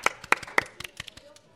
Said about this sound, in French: Radio BAM, oui ! Bravo ! C'est à nous de vous applaudir.